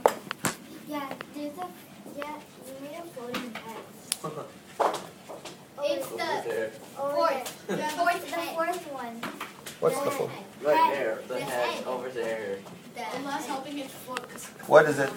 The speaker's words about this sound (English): It's just a crowd. This is a crowd.